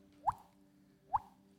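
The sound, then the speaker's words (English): Two hollow, pitched plops about a second apart, made by a mouth imitating water drops, each with a quick upward bloop against a faint background hum. “Like a water drop. I can just do this.”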